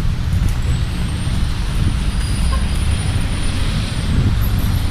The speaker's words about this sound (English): You can probably hear big trucks and stuff.